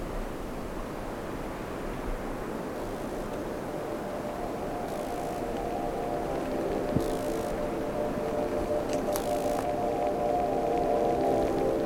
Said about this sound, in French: Le vent de sud-est s'est levé à travers la Pinède.